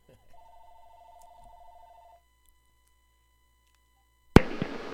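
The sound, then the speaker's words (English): A telephone rings with an incoming call, once in a steady trilling burst lasting about two seconds, followed by a pause of silence and then an abrupt, loud clatter near the end. “Here comes our phone call.”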